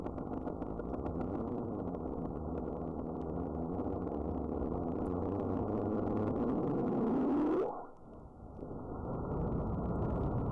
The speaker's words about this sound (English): So the buzzing sound is when the earthquakes are coming at about 1 per second.